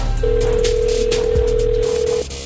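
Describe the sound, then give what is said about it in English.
A phone line rings out on an outgoing call to a helpline in New Jersey: one steady, two-second ringback tone, fairly loud and clear over a low background hum, with no talking. “I'm going to make a phone call real quick, okay?”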